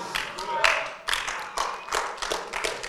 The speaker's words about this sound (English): I think it's very rude that they clapped Heidi.